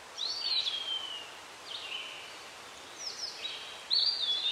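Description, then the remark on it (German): A bird gives several high, thin whistled calls with sweeping pitch, spaced out over a few seconds against a quiet, airy outdoor background. The calls sound soft. “Ein Vogel ruft und ein Eichhörnchen huscht über die Lichtung auf einem Baum dir gegenüber.”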